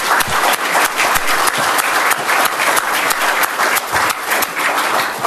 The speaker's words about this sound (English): Let's give all the speakers a round of applause. They did a wonderful job.